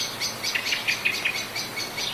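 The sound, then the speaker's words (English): A blackbird gives a rapid series of sharp, high chinking alarm notes at dusk in Port Arthur, Tasmania, repeated insistently over a soft background hush. “But I'm certain someone, long ago, had brought them here precisely in order to hear their nervous alarm calls as nighttime fell.”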